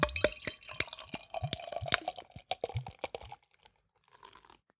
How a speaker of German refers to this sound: Bevor du mir nämlich auch so ein Foto von mir schießt, wo ich an der Flasche rieche, gieße ich mir das Bier mal lieber in ein Glas.